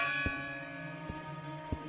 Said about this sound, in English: And you could hear the bell tolling over the top of you.